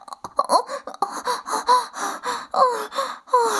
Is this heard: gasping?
yes